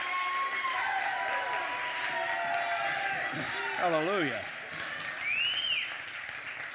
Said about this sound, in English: Amen. Give the Lord a hand clap of praise like you mean it.